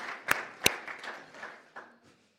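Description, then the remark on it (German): An audience claps briefly for the visiting brothers and sisters from Jesreel. Two sharp, loud claps ring out at the start, then softer scattered clapping trails off and fades within about two seconds. “Kann man für sie klatschen nochmal?”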